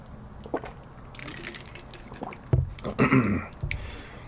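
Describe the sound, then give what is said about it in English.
Someone takes a sip of water between shots of alcohol, with soft liquid slurping and a couple of quick swallowing gulps, no talking. “Let me have a sip of water in between.”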